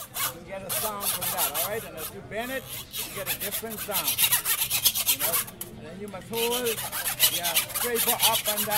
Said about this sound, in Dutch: Dat is dus de muziek die je maakt met een zaag en een schroevendraaier.